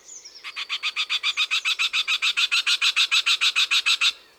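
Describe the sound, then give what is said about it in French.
A Eurasian wryneck, a sparrow-sized bird, sings: a steady series of about twenty loud, nasal, ringing notes repeated quickly and evenly, with no talking. “À la lisière du bois, ou dans un vieux verger, on entendra peut-être le chant du torcol.”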